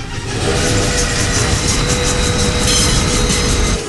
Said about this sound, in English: Seriously, stop the train! All right, stop the train!